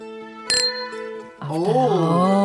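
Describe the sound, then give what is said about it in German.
Expensive glasses of Sekt clink together in a New Year's toast: a bright, sharp clink over a steady ringing tone, followed by a sustained, wavering ring that lingers to the end. “So, ich komme zu dir zum Anstoßen.”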